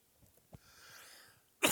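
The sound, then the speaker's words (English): A single sharp cough bursts out at the end after a stretch of quiet breathing and faint background noise; no one speaks. “I need a cough button up here.”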